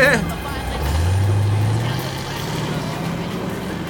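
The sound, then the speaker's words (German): A VW bus's engine rumbles, rising in pitch as it pulls away, then settles into a steady low drone that slowly fades. “Fast ein wenig wehmütig sah Peter dem davonfahrenden VW-Bus nach.”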